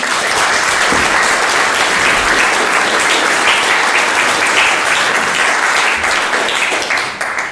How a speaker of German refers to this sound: Vielleicht begrüßt du dich einfach erstmal mit einem herzlichen Applaus.